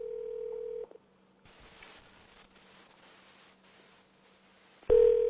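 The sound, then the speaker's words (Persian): A steady telephone dial tone hums loudly for about a second, cuts to a soft crackling line hiss, then the tone returns sharply at the end, as a studio places a call to the Wahhabi Noor network. “اگر صدای بوق تلفن رو تقویت کنید تو استودیو ممنون میشم.”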